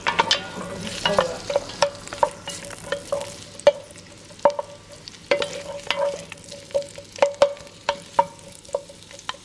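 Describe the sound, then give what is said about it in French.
Onions sautéing in a pan: a soft, steady sizzle under irregular sharp taps and scrapes of a utensil stirring, with a constant low hum behind and no one talking. “Donc je fais revenir les oignons.”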